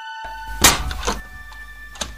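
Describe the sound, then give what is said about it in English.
A door opens with a sharp thunk, followed by a softer clack and a brief rattle a second later, with no one speaking. “I thought that door was locked.”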